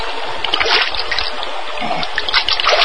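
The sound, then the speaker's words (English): A nearby stream trickles and splashes steadily, a bright, bubbling wash of cool water with small irregular splatters throughout. “Then, staggering slightly, he walked slowly to a nearby stream. Then, lying prone on the bank, sipped the cool water.”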